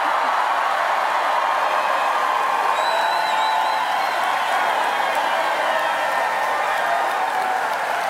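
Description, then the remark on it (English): A large crowd at a Democratic campaign rally in Wisconsin cheers and applauds continuously after the announcement of enough delegates to secure the Democratic nomination, a dense, roaring wash of clapping and shouts with occasional high whistles rising above it, steady and loud throughout. “Now, that is what you call a crowd response.”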